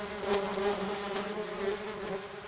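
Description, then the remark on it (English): A steady, dense buzzing of many bees swarming around a tree in a backyard, a continuous droning hum that swells and fades slightly as insects pass, with no voices. “Like, I'm standing out here, and they're buzzing around.”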